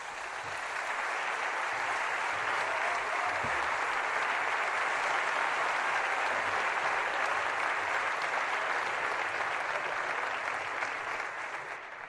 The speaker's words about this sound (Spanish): És l'autor de l'himne del centenari del Villarreal. Amb tots nosaltres, aplaudiment per a ….